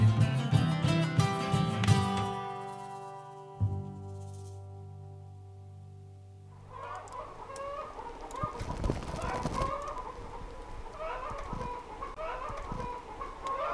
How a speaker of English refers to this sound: looking for where the chicken sounds are coming from